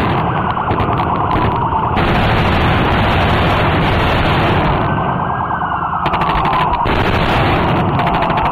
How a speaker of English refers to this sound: Now, of course, this is purported audio. If I can get these guys to tone down the gunfire just a little bit, please. Really, nobody wants to hear that.